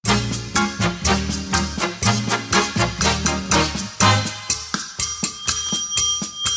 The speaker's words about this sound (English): They said, you're not using the bell enough. So, wow. Trying to use the bell. but I was ringing that bell as a welcome back